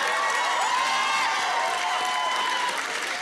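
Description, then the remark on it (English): A crowd cheers loudly and steadily, with whoops and shouts layered over continuous applause-like noise that holds at full volume for a few seconds. “Why does everyone cheer for this?”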